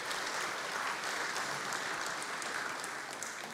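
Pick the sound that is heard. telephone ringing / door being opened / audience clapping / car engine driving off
audience clapping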